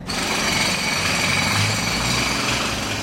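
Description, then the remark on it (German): Steady, loud rattling and grinding of construction machinery at street construction sites on the Spalenberg, where the road is torn up and machines drive up and down the hill, continuous for the whole stretch with no voices. “Aber auch zuoberst hat es eine kleine Baustelle und dazwischen fahren Baumaschinen den Berg durchauf und durchab.”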